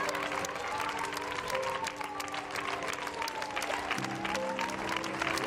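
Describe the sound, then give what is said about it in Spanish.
Sustained applause from a large crowd, dense and continuous clapping throughout, with a faint musical tone underneath and some indistinct voices mixed in. “Por aplaudir.”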